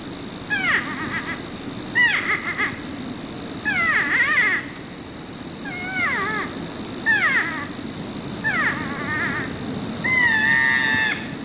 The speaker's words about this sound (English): I've got the porcupine. Let's listen to that. North American porcupine.